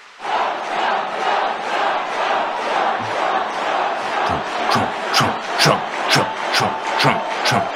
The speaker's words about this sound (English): And the crowd just loses its mind.